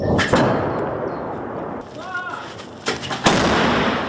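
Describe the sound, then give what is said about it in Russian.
Ukrainian artillery guns fire in heavy, booming blasts: one near the start and two more close together near the end, with a rumbling roar between them and a brief faint voice in the middle. “Главная задача сейчас украинских артиллеристов – стрелять максимально быстро и максимально точно.”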